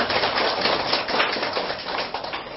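A crowd claps loudly and steadily, many hands producing a dense, crackling wash of sharp slaps that holds at an even level for a few seconds with no voices.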